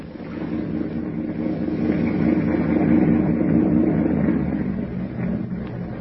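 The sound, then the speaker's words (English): A low, steady motorboat engine purrs continuously on New York's East River as the boat heads for a pier, swelling slightly in loudness toward the middle before easing back, with a rumbling drone and no voices. “Suddenly, the thick silence is broken by the low purr of a motorboat engine.”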